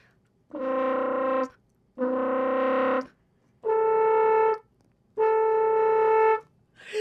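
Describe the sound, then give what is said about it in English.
Four sustained horn notes played with the flutter-tongue technique, a buzzing, fluttering rasp mimicking the bleat of sheep. Each lasts about a second, the last two a bit lower in pitch, separated by short silences. “So maybe I can play a couple notes, just normal, and then I'll add what's called flutter tongue, and it's going to make a sheep sound, basically.”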